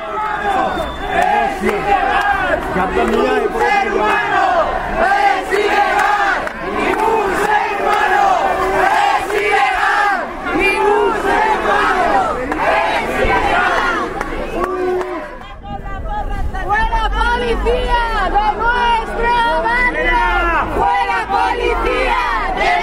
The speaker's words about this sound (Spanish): vecinas y vecinos comenzaron a proferir gritos como «Ningún ser humano es ilegal» o «La policía invade nuestros barrios»